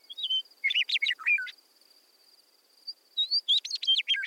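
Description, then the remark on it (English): A meadowlark sings two bright, fluting phrases of quick whistled notes, separated by a short pause, with a steady high insect-like hum running underneath. No voices. “Meadowlark is a talkative bird. You can often see them singing from the top of fence posts or trees.”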